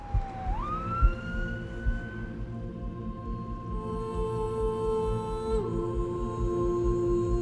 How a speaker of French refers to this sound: Pendant ce temps, en arrière-plan, on entend la sirène d'une ambulance qui se rapproche, renforçant l'urgence de la situation.